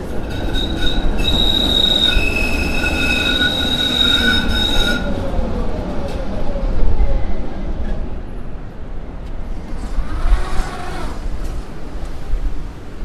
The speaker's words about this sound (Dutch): Daar komt een oude tram 5 aan.